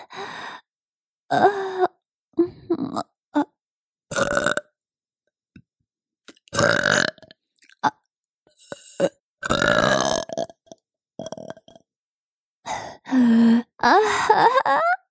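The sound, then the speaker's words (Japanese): A mother's milk burps: a long series of loud burps, some short and clipped, others drawn out and groaning, coming in irregular bursts separated by brief silences. “出た。どう？ママのミルクゲップ。いい匂い。”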